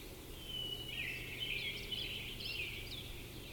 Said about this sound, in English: There are definitely two in here calling, but no singing.